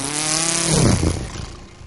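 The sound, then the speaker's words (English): A small boat motor starting up: a loud, buzzing engine drone that surges into a rough, sputtering rev before easing off slightly. No voices are heard. “There's no water anywhere around the motor.”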